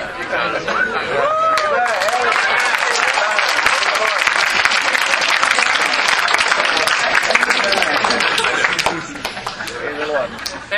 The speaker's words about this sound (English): How about all the students who are coming back, not from this locality? You all stand up, Amen. I want to give you a warm applause.